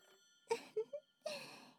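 A telephone rings quietly in short bell-like bursts, then a longer ring, with nobody answering and no voices heard.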